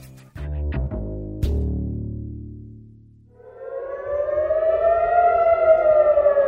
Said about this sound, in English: When air raid sirens go off, you run and hide. But if you looked up at the sky in Tel Aviv this week, you would see dozens of little fireballs heading towards you.